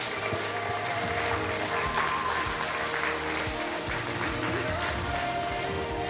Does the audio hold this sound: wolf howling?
no